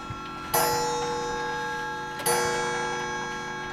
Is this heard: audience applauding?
no